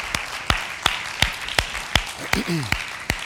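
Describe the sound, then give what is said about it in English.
A crowd claps hands together for Jesus after a prayer, in steady unison, about nine sharp claps at an even, brisk beat, with a brief voice rising in the background partway through. “Can we give Jesus one more hand clap together?”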